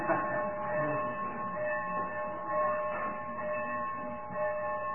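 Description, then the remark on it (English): Bells ring continuously during a sermon, their overlapping metallic tones blending into a steady, shimmering drone for the whole stretch, with no clear gaps between strikes and no one speaking. “First time my preaching has ever set the bells ringing.”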